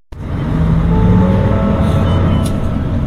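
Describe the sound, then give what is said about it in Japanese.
A steady low engine rumble and road noise fill the interior of a moving Kinchu Bus city bus, next stop Hon-Atsugi Station, with faint whines and rattles layered over the continuous drone. “本日は金中バスをご利用いただきましてありがとうございました。”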